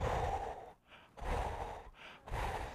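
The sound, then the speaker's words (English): Three heavy, drawn-out breaths, loud, separated by brief pauses, as a person imitates slow, ominous breathing with no words spoken. “And then all of a sudden you hear this breathing.”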